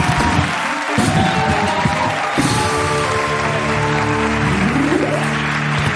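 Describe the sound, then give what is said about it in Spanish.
A crowd applauds loudly and steadily to welcome Cristina Gutiérrez, straight from the Dakar, dense clapping mixed with cheers and whoops, plus sustained tonal sounds like music or sweeping cheers running underneath throughout. “Un aplauso para Cristina Gutiérrez, directa desde el Dakar.”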